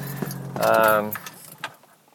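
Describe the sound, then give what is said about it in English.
A car engine's low rumble runs for about a second, then abruptly cuts out as the engine is switched off in a driveway, leaving near-quiet with faint jingling of keys and a few soft clicks. “And it got a lot quieter right there because there, my engine's off.”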